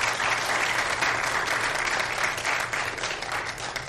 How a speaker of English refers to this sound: And so so it's evident they want to be members of Calvary. They want to help serve here. And get a round of applause this morning.